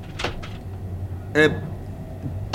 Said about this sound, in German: Klopf an